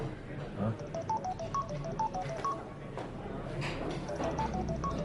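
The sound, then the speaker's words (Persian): A mobile phone at a workplace goes off with a rapid run of electronic beeps, short melodic tones hopping between pitches like a keypad or game jingle, repeating in two bursts over a busy background with faint voices; its owner had been playing a game on it and forgot to turn it off. “بازم موبایل؟ مگه صد بار بهتون نگفتم موبایل تو محل کار ممنوعه؟”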